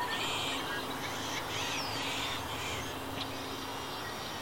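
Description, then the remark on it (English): Ducks quack and call over steady outdoor ambience at a reedy pond amid sagebrush-studded hills in the mid-Columbia region, with scattered bird chirps mixed in. The calls overlap rather than standing out singly, and no one speaks. “Cinnamon teal ducks, coyotes, beavers, and even the elusive black-tailed jackrabbits.”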